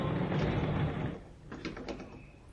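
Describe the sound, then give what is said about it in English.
A door in a store slides open with a broad rushing, mechanical swoosh lasting about a second, then settles into quieter rattles and clicks as it moves, with no talking. “But come along, through these doors.”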